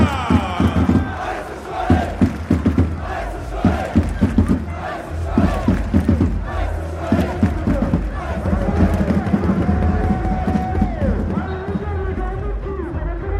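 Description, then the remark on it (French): A large stadium crowd at the Stade Bonal roars and cheers, applauding the FC Sochaux-Montbéliard team. Dense applause crackles throughout, with scattered shouts and whistles rising above the steady wall of noise for the whole stretch. “Et j'aimerais un tonnerre d'applaudissements, mesdames, messieurs, pour les jaunes et bleus, le FC Sochaux Montbéliard.”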